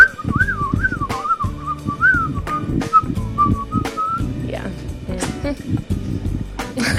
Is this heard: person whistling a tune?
yes